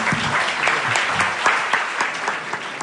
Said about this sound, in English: and please a round of applause for our panelists tonight. Thank you.